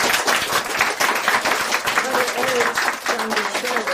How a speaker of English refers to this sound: Thank you. You're not clapping just for me. You're clapping for my helpers, the office. 你们在这边不是单单只为我鼓掌，你们也在为我的助手来鼓掌。